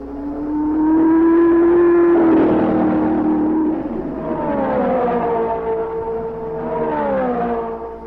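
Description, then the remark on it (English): Race car engines at the Indianapolis Motor Speedway in early May 1967 whine loudly and steadily, their pitch climbing and dipping in long sweeps as cars roar past one after another while preparing for time trials, with no voices over the noise. “This is the Indianapolis Motor Speedway, early in May 1967.”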